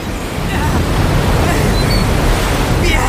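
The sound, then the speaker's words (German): Stormy open sea during a heavy thunderstorm, with a loud, continuous roar of wind and surging waves, a dense rumbling wash that never lets up, as a fisherman and his son row a boat. “Es erhob sich ein schwerer Gewittersturm, schwerer als ich zunächst vermuten ließ.”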